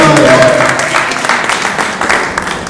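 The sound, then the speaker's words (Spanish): An audience bursts into steady applause during the presentation of a certificate of recognition, many hands clapping in a dense, crackling wash that stays loud throughout and eases off slightly toward the end. “Un aplauso,”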